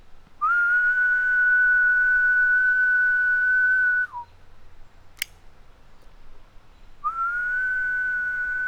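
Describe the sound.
A person whistles a long, steady high tone for about four seconds, imitating a male cicada's mating call to draw out Brood XI cicadas, then falls quiet before starting another sustained whistle. A sharp click sounds in the gap between them, imitating a female cicada's clicking response.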